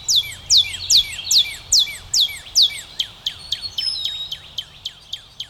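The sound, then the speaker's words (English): A cardinal sings clearly, with a string of bright, downward-slurred whistles that quicken into a rapid series of shorter chips. No one speaks. “Red birds can't get enough black oil sunflower seeds”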